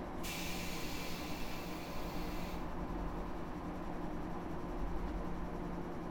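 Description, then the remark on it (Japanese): Train doors open with a bright pneumatic hiss lasting a couple of seconds, then it cuts off, leaving a steady low rumble of the idling train underneath. “扉開きまーす。”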